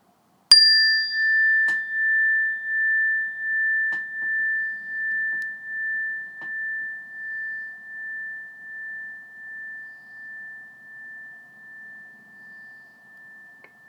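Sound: meditation bell ringing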